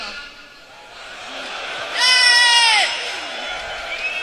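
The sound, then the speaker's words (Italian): A concert crowd shouts and cheers, with a loud, piercing collective yell rising sharply in the middle before settling back into a steady wash of audience noise. “Il pubblico credo che abbia che stia urlando Pussy.”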